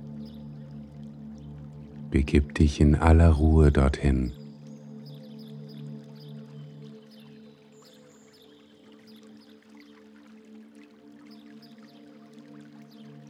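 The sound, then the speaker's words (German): A gentle stream, a small river of warm thermal water not far away, trickles and burbles steadily throughout, with small drips and splashes, while a calm voice speaks briefly near the start over the flowing water. “Und hör, nicht weit entfernt fließt ein Bach.”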